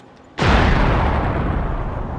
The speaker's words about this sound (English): Suddenly, there was a loud explosion.